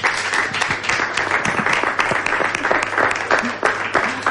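Steady audience applause for four authors at a book fair event, the Fira del Llibre, many hands clapping in a dense, continuous patter that stays loud and even throughout with no voices rising above it.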